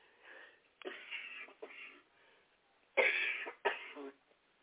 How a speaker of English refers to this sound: Excuse me, I still have a cough.